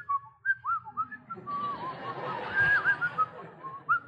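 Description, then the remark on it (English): Someone whistles a string of short, chirpy notes and quick upward slides, imitating birdsong, with a breathy, airy burst partway through. The whistling is fairly soft, with no talking. “They whistle everywhere they go.”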